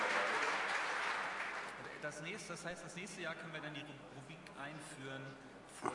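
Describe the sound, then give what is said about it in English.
A burst of audience applause for presenters giving their Security Nightmares talk for the 10th time, dense and steady for about two seconds, then fading as a man starts talking over the last scattered claps. “Lots of applause.”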